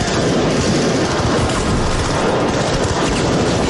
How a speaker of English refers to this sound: They're in the without, middle of kind of hand signals, and he just ducks through this door and starts shooting all these dudes.